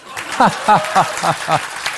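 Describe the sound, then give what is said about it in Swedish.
A stand-up comedy audience, asked by the host, laughs and applauds at once: five rhythmic, pitched bursts of laughter ride over a steady wash of clapping for about two seconds. “Och sen att ni så här skrattar och applåderar samtidigt, kanske.”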